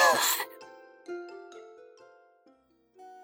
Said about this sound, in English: The piece of poisoned apple that was stuck in Snow White's throat fell out and she began to cough.